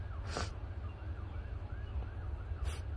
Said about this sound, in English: You hear it? There's some sirens and ambulances in the background.